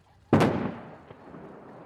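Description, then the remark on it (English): A large explosion at North Korea's nuclear test site, set off with strung-up explosives to destroy the testing grounds, goes off with a sudden, loud boom, then rumbles away in a long fading roar, with a faint second thud following about a second later. “With a series of large explosions, blast! North Korea claims it destroyed its once-treasured testing grounds, used since 2006 to build increasingly powerful nuclear weapons.”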